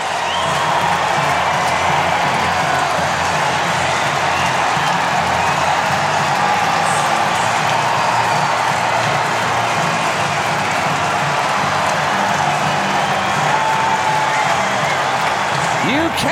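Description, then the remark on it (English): A big baseball stadium crowd cheers a walk-off home run hit with the bases loaded into the right-center bullpen, in a loud, steady roar that holds without a break for about sixteen seconds, a dense wash of voices with no single speaker standing out. “took him to the bullpen in right center, all the way out of here to win the game. Listen to this crowd.”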